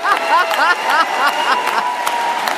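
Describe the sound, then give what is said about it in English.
A political rally crowd cheers loudly and steadily, with rising whoops and shouts at calls to arms and attack lines, layered over a dense wash of applause and clapping, no single voice standing out. “Both rallies drew enthusiastic crowds who whooped with every call to arms and cheered the many well-oiled attack lines.”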